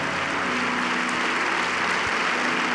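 An audience clapping together, a dense, steady wash of many hands that holds at an even level for a few seconds, with no voices standing out above it.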